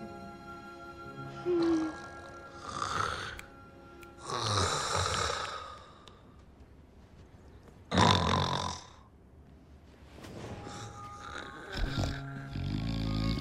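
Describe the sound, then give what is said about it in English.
Someone snores loudly, a series of rough, rasping breaths repeating every few seconds with quieter pauses between. No one speaks. “Even … snoring.”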